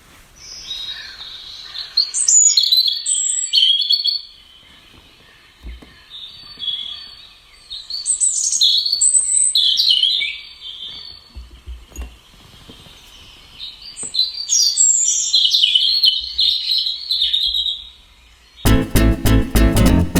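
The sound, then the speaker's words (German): A European robin sings alone in a run of clear, high, warbling phrases broken by short pauses, played back through a mobile phone speaker, steady, until a brief loud burst of a different sound cuts in at the end. “Lauschen wir doch mal kurz dem Gesang des Rotkehlchens.”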